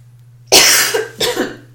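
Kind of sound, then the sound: human body sound, cough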